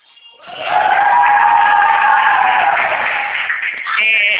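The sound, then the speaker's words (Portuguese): A crowd of people cheers and shouts together in a loud, sustained roar, celebrating a paid contract, that rises quickly and holds steady for several seconds, with a few voices yelling above the rest near the end. “O pessoal está comemorando aqui.”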